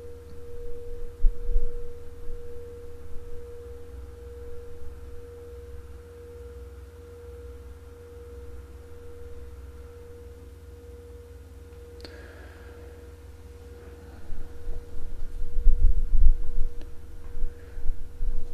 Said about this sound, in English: So the bell is a kind of transition.